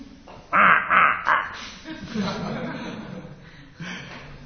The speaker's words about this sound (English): In India you have so many, isn't it? Whole country is full of the crow. Here in Australia also, so many crows.